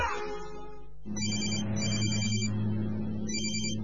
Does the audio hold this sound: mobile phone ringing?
yes